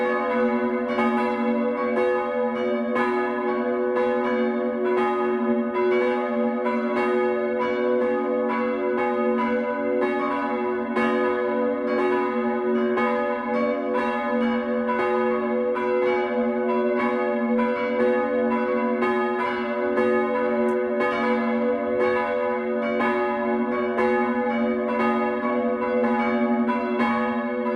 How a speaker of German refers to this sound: Das 12 Uhr läuten heute aus Engeltal in Mittelfranken